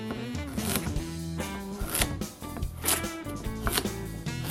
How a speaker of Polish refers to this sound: W tym czasie, jak nagrzewa nam się piekarnik, to obieramy marchewki, a następnie kroimy je w takie grubsze plasterki.